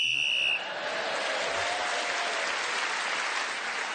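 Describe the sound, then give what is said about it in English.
A short, shrill, steady whistle blast of about half a second, blown to end a round of a panel game as a panelist was speaking, immediately swallowed by loud, sustained applause that continues to the end. “And so …, again speaking as the whistle went with other points in the round, has moved forward.”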